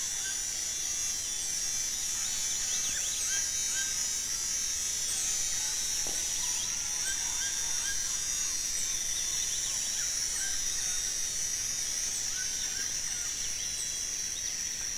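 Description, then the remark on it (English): At dawn, a steady, high-pitched drone of the first insects coming to life hums without a break throughout, while scattered birds chirp and whistle in short bursts over it. No voices are heard. “And this recording has that wonderful transition from the first flush of a dawn chorus with the howler monkeys and birds, and transition into the period when the first insects ratchet to life.”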